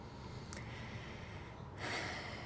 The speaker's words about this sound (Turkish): Şöyle derin bir nefes alarak bu kayda başlamak istiyorum.